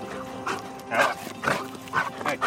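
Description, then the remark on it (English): A search and rescue dog barks in a quick series of four or five sharp yelps, spaced roughly half a second apart over a low, steady background hum. “Around the country, FEMA has about 280 certified detection dogs trained to find people in disasters.”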